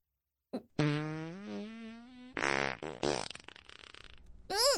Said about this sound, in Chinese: 好臭，什么味道？ 哎呀，抱歉抱歉啊，肚子太胀了，一不小心就想放屁。